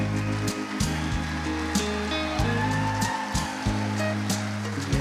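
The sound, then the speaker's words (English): A morning audience applauds standing couples married more than 50 years in a dense, steady wash of clapping that lasts throughout, with a few sharper claps standing out and low sustained musical tones humming underneath. “If you've been married more than 50 years, give them a hand clap.”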